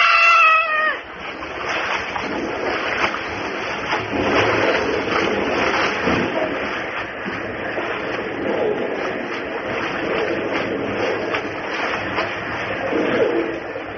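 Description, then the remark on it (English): A steady, dense roar of rushing water from a waterfall fills the whole stretch, broad and loud without letup, with a brief higher wavering tone at the very start. “The roar of the falls is getting too loud.”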